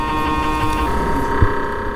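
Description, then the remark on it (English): A steady, droning electronic hum from an MRI scanner during a brain scan, with layered tonal lines holding constant throughout and a single brief low thump near the end. No one speaks. “There's like a constant, like, you know, kind of like hum thing.”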